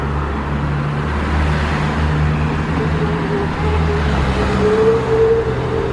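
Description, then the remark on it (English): Steady road traffic rumbles on a bridge with a steep slope, heard by a cyclist rejoining the traffic, with car and engine noise filling the low end and a faint rising engine whine near the end; no one speaks. “And now I re-enter the traffic on the bridge.”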